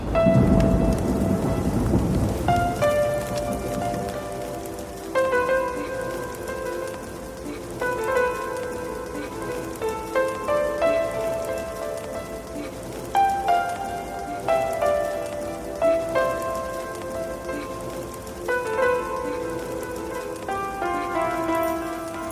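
A deep roll of thunder opens over steady falling rain, then soft melodic notes play on top while the rain hisses continuously underneath.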